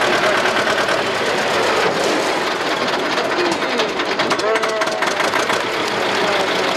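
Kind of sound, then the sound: vehicle, tractor engine idling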